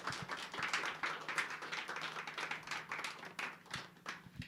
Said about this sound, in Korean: 목사님 나오실 때 박수로 환영하겠습니다.